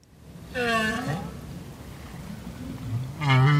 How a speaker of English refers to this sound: That's a North Atlantic right whale. They're highly endangered, and several years ago, they disappeared from the waters off the coast of Maine, where they're normally found.